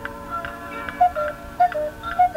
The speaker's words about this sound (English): This must be Switzerland, where they make such wonderful clocks. Hear them ticking?